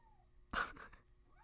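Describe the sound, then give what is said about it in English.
A single meow from a pet cat named Poe, clear, starting abruptly with a bright, drawn-out cry that tapers off over about half a second against a quiet background. “Our cat is being a complete baby right now.”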